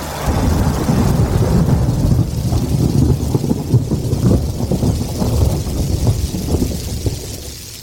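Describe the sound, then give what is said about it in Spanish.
A heavy rainstorm pours down steadily with deep, rolling thunder rumbling throughout, loud, with no voices present. “Porque llover, lo que se dice llover, va a llover.”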